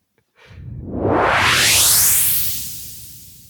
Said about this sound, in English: So we'll just do the swoosh about 3.5 minutes earlier.